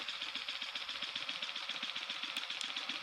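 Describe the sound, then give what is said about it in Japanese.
A piston vibrator runs with a steady motorized whir, overlaid by a quick, regular pulsing thump repeating several times per second. No voices are heard. “いや、それはピストンバイブだからピストンするけど。”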